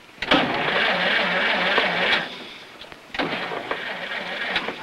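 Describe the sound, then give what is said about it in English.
A car engine runs rough in two bursts with a short gap between, the motor wavering and straining before cutting out as the car, out of gas, stops. No one speaks. “The car stops.”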